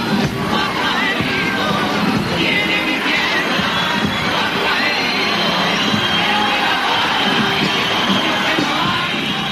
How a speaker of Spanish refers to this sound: Como bien se escucha en la grabación, el público del teatro empezó a silbar y poco a poco se fue calentando el ambiente y se escucharon abucheos e insultos.